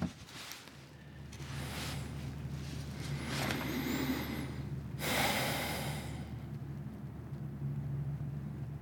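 A logging truck rumbles on a road half a mile away in absolutely still air, a steady low drone holding throughout, with a couple of soft breathy whooshes rising briefly over it and no voices.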